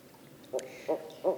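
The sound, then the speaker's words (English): A barred owl family calling: three short, moderately loud hooting notes at steady intervals over a faint background, with a brief high-pitched squeal from a baby owl talking to its parents near the first note. “These are barred owl families. The babies make very high-pitched squeals as they talk to their parents, and I think they're saying, "I want those mice.”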